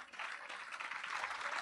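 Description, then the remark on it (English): A crowd applauds steadily, a dense wash of many hands clapping at an even, moderate loudness that holds without pause throughout. “thank you for the applause.”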